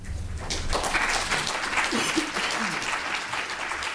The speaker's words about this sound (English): About 50 people applauded the city council's decision late last year.